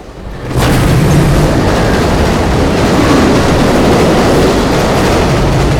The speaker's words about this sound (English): He watches another train pass and looks down before turning to her again.